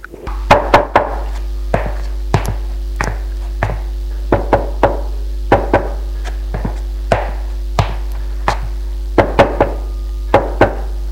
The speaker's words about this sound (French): Il frappe aux portes.